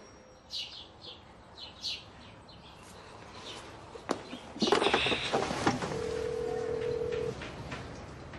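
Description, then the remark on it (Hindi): A phone ringback tone sounds once near the end as a call is placed and nobody answers, a steady electronic purr lasting just over a second. Earlier come a few faint chirps, a sharp click and a brief burst of rustling noise. “Bell बज रही है, बात करो जल्दी। कोई उठा नहीं रहा।”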